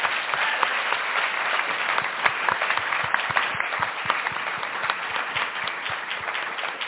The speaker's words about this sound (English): Can you please join me in giving them another round of applause?